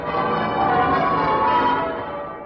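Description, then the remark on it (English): The church bells of Westminster Abbey in London peal continuously on V-Day, a dense wash of overlapping ringing tones that swells slightly and then fades a little, sounding full and resonant with no voices present. “Those are the bells of victory ringing on V-Day in Westminster Abbey, London.”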